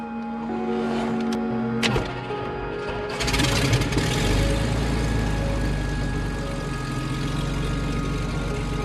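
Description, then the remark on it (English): A small airplane engine starts up with the electrics on, throttle cracked and some gas given: a whining starter and a couple of sharp clicks, then at about three seconds the engine catches with a loud burst and settles into a steady, throbbing low roar. “Give it some gas. And then clear.”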